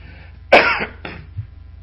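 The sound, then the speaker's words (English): A loud cough from a person with a slight cold, with a sharp burst, followed a moment later by a shorter, softer second cough, over a low steady background hum, with no talking. “I still have a little cold going on, so if you hear me cough or whatever,”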